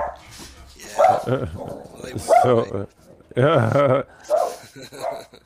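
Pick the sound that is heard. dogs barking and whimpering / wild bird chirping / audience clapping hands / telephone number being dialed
dogs barking and whimpering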